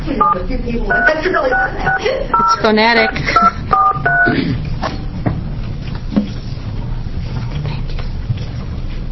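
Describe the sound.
Telephone keypad tones as a committee dials a doctor to join the hearing by phone: a rapid sequence of a dozen or so short beeps in quick succession, followed by a warbling ring-like tone, with people talking noisily in the background.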